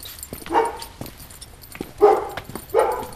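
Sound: dog barking and whimpering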